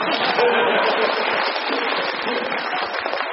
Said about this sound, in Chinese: 哎，最后掌声鼓掌吧。